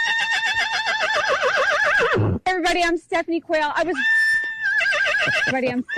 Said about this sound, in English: She literally says her name and the horse starts shouting at her.